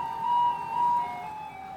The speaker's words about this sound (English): So it's coming up now to 2 o'clock. And let's see if the alarm sounds off. No, all I can hear is Beethoven. There we go.